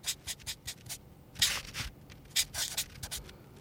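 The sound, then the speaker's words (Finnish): A pen scratches across paper in quick, uneven strokes as someone draws the character Minimilla, short hissy scrapes with a few longer, louder sweeps. No one talks. “Tässä minä piirrän teille Minimillan.”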